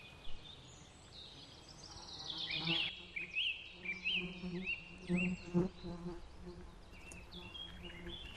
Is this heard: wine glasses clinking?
no